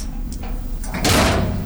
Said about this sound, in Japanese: 僕は鉄のドアの鍵を開けた。そして扉を開いた。外は風が強い。